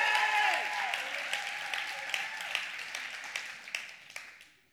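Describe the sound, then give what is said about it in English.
A crowd breaks into steady applause that gradually thins out, leaving a few scattered, distinct claps before it fades away. “But they'll probably clap for you later today.”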